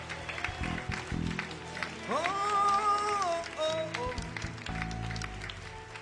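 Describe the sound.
An audience applauds a harvest of souls in a steady wash of clapping while a man's voice rises over it with drawn-out exclamations, the crowd noise continuing throughout.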